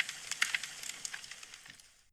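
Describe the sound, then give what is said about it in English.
Gritty, crunching footsteps on a trail, a quick series of crisp, crackly scuffs at a quiet level that gradually fade away. No one speaks. “As you begin your journey again, you can hear the crunch of the trail.”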